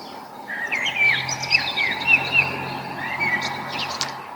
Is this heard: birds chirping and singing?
yes